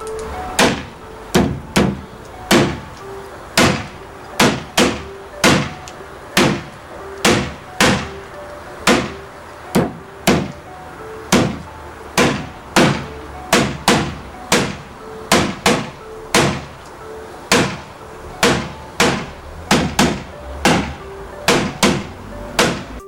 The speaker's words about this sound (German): Es sind ganz normale, klassische Weihnachtslieder, die du mit Sicherheit kennst, auf Fleisch geklopft, du weißt aber nicht welches. Wir hören jetzt mal Lied 1.